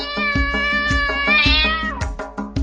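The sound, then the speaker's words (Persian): Six cats meow in a children's counting song, a quick run of high, gliding calls over a steady, bouncy musical beat, the meows rising and falling in pitch and sitting loud. “شش تا گربه نشستن میو میو میکنن.”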